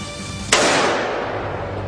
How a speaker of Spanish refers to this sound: Un solo disparo alcanza a King en la mandíbula, arrojándolo hacia atrás.